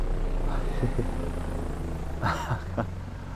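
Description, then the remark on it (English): A helicopter flying across a bay: a steady low engine drone with rotor-like throbbing hums through the whole stretch, with a few brief voice-like sounds rising over it. “A helicopter. You know who likes flying those around.”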